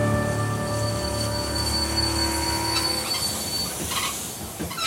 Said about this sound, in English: When Curtis's train finally pulled into the station, Bell's assistants were there waiting to greet him.